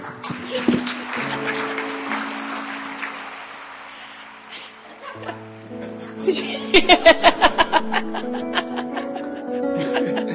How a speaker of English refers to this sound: My husband with the fake applause over there.